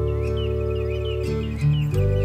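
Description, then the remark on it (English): Birds chirp and warble at dawn, around 6 o'clock, over steady, sustained musical chords that shift a few times, the birdsong light and continuous beneath the tones, with no one speaking. “The birds are singing.”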